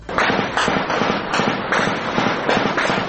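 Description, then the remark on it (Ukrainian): Sustained rapid gunfire, loud and dense, with sharp cracks repeating in quick irregular bursts over a constant roar of shooting: machine guns, automatic rifles and automatic and hand grenade launchers firing continuously on the front line near Marinka, Donetsk region, Ukraine. “Починалося спокійно, декілька черг із кулеметів, далі вже постійна стрілянина з автоматів, автоматичних та ручних гранатометів.”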